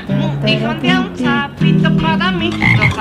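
Toads croak in a loud, continuous chorus, their low, buzzy, pitched calls overlapping and swelling in pulsing bursts for about three seconds, with no one talking.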